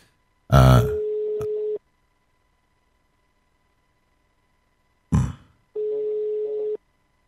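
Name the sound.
telephone ringing tone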